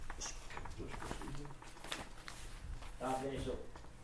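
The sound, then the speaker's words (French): Continuous rustling and shuffling of papers as a person handles them, trying not to drop them on the floor, crisp bursts of handling noise spread across the whole stretch, with the person's voice briefly audible underneath. “Attendez, je ne veux pas jeter mes papiers à terre, ça ne serait pas une bonne idée.”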